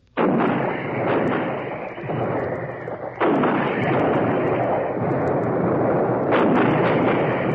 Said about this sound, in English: For weeks, the long rows of 155s, long toms, had been in position. Their ammunition dumps well stocked, their breaches well oiled. These precision weapons laid down the most concentrated heavy artillery fire of this war.